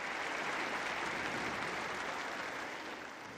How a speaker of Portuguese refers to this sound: Estou muito próximo de vós, repetiu o Papa, fazendo um silêncio seguido de aplauso da parte do público.